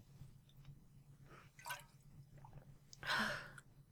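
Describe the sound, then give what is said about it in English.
Soft slurping sips of water, a few brief wet draws followed by a louder sip and breathy exhale near the end, over a low steady hum. “Let me take a sip as well.”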